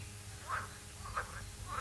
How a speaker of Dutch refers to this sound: Kikkers. Nou ja, het is misschien ja. Is het wel geluid van de kikkers, denk ik. Ja, ja het is, ik ben in de Notoris toen. Het is het zogenoemde geuren- en kleurenfeest in Oirem.